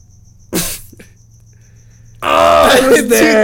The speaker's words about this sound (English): We even have like crickets in the background, bro.